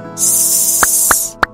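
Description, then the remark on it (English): A person exhales a steady, sharp hiss through the teeth for about a second, imitating a cobra while lying face down and lifting the head and chest during a floor exercise, with a few soft clicks near the end. “We'll lift the head and chest at the same time and breathe out through our teeth, listening to a hissing sound cobras make.”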